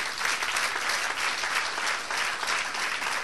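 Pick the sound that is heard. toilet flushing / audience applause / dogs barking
audience applause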